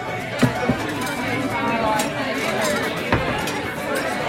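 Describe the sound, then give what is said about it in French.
Busy crowd chatter in a traditional Irish pub established for centuries, where pints of Guinness are ordered. A steady murmur of many overlapping voices, with occasional sharp clinks of glasses and dishes cutting through, including a couple of louder clinks near the start. “Vous sentez l'ambiance d'un vrai pub irlandais installé depuis des siècles.”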